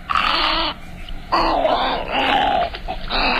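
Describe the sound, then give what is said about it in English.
Loud, harsh, raspy squawks from a medium-sized, slender, all-white wading bird with black legs, yellow feet, a long thin neck and a dark bill: three drawn-out grating bursts separated by brief pauses, with no one talking. “Our mystery bird is a medium-sized, slender, all-white wading bird with black legs and yellow feet and a long, thin neck and a dark bill.”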